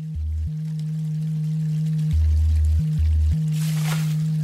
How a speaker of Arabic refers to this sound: هيدا مقطع من عمل بيتعاون فيه … مع …. هيدا مثال على تعاون الموسيقى الإلكترونية مع بحر الهيب هوب الواسع